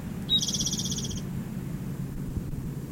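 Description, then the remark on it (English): A single short bird song phrase, a high, buzzy trill lasting about a second, rings out over a steady low rumble that continues after the song stops. “The same bird.”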